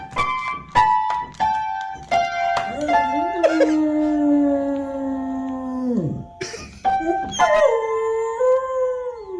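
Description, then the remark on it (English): A beagle plays a piano with its paws on the keys and howls along in long, wavering, drawn-out notes, mixed with sharp percussive piano plinks and short yips between howls. “Buddy's a beagle. Buddy walks up to the piano, Buddy plays the piano, and Buddy sings.”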